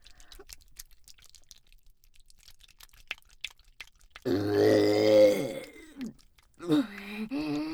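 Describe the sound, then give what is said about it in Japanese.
A long, deep, voiced burp rumbles out after a few seconds of faint clicking, followed by a short vocal sound. “ああ、また色ゲップが出ちゃいました。”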